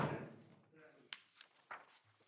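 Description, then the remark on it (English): A loud door slam hits right at the start and rings out with an echo during a meeting, followed by a few softer knocks and shuffling sounds. “It was right at the door slam, before,”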